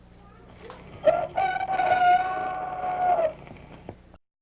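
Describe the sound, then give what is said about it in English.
A rooster, Mickey the Rooster, crows once, loud, a drawn-out cock-a-doodle-doo lasting about two seconds with a strident, harmonic tone, heard on its own against quiet background, on the show Kitty a Go Go. “But first, here comes a very important message for you from our good friend, Mickey the Rooster.”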